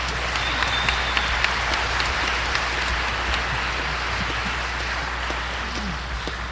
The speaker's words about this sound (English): is due another round of applause